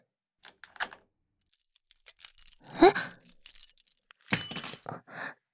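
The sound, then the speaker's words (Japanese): Keys jangle and clink in several short metallic bursts, with a brief louder rattle midway and a final flurry of jingling; no talking. “何です？その鍵。”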